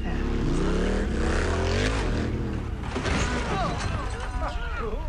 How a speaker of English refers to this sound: So here's a clip from it when Paul Rudd comes crashing in to the counselor orientation on a motorcycle.